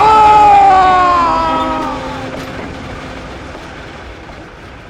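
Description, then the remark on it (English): A train rolling along its rails, with a loud whining tone that slides downward at the start before easing into a steady, fading rumble of wheels on track. “He had only a moment to be surprised before he fell from the train.”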